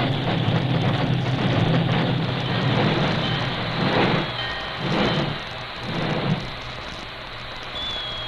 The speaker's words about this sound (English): He backed the work engine almost to the siding before he brought it hissing and squealing to a standstill.